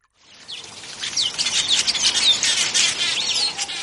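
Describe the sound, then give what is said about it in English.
Several birds chirp and trill together in a steady outdoor chorus in a flower-filled hospice garden in the leafy suburb of Houghton, Johannesburg, bright overlapping calls continuing throughout at moderate volume, with no voices present. “A garden filled with flowers and birds surrounds Wits Hospice in the luxurious leafy suburb of Houghton in Johannesburg.”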